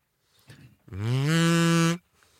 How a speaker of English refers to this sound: You don't just blow into a kazoo. You have to hum. Let me try this sucker out.